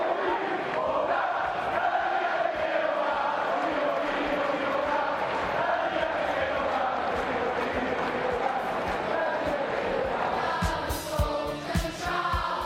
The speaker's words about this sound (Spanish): El Wanda Metropolitano en pie, aplaudiendo al portero esloveno.